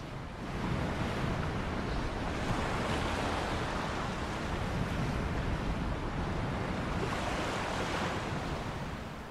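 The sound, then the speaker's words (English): Steady ocean surf heard from a patio washes in continuously, a broad roaring hiss of waves breaking on the shore with gentle swells in intensity and some wind rumble, with no voices present. “But before I do, let's just sit here and enjoy the sound of the ocean for a while.”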